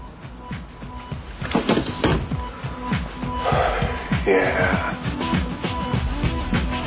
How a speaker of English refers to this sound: That I'm breathing. Say it. This is me breathing.